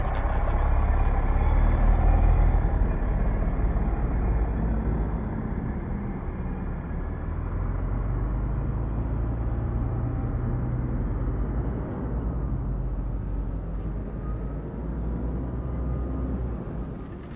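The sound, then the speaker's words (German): Heavy street traffic on a city boulevard in Berlin: a dense, continuous roar of car, bus and truck engines with deep rumbling, holding a steady, loud level throughout. “Stimme der Menschen, Verkehr, massiv”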